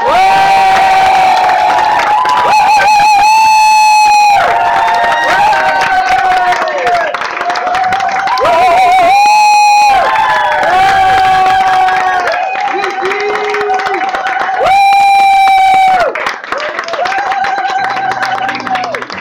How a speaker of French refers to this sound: Lorsque quelqu'un fait une goguette pour la première fois, on l'applaudit deux fois plus fort. Mesdames, messieurs, je vous demande d'applaudir très, très, très fort, comme une première fois d'ailleurs